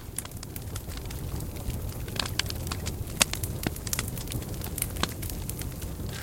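Steady crackling from a barbecue grill fire outdoors while sausages are grilled, with irregular sharp pops and snaps over a continuous low rumble and hiss; no voices.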